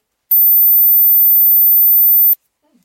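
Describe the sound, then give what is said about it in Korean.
A single very high-pitched age hearing test tone, the one for people aged forty and over, holds steady and loud for about two seconds, starting and stopping with a faint click, followed by near silence and a brief murmur. “좀 전에 이 소리가 40대 이상이었고요.”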